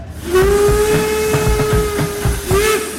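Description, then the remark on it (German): A diesel locomotive of the Bergwerksbahn hauls three carriages to the terminus Bendorf in Kloster Mansfeld, in the Mansfelder Land, Saxony-Anhalt, Germany. It sounds a long, steady horn blast over a rhythmic, pulsing rumble of the engine and wheels, loud throughout with a brief pitch wobble near the end. “Nach kurzer Pause geht es dann aber doch weiter und die Diesellok zieht die 3 Wagen souverän bis zum Endbahnhof Bendorf in Kloster Mansfeld.”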